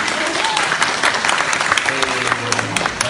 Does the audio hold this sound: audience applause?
yes